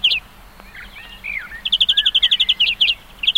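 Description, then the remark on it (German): A greenfinch sings a varied song: a rapid, even trill of bright high notes, with twittering phrases and a falling, wheezy note in between, heard alone without any talking. “Also da hat sehr viele Variationen drin.”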